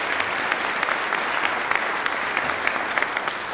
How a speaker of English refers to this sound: they deserve another round of applause for bringing us all together.